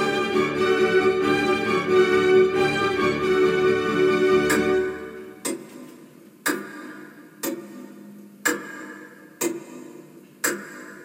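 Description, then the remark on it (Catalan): A sustained musical drone fades out, leaving loud, crisp clock ticks spaced about a second apart, each with a short ringing tail, in an otherwise quiet space. “Hem deixat el nostre amic dormint plàcidament a la cripta i ens hem fet presents en la nostra cambra del rellotge mortal”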